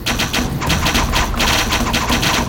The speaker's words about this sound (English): Cao Cao could not see clearly, but he saw the shapes of the boats coming from the south. He thought he was under attack. He ordered his soldiers to fire their arrows.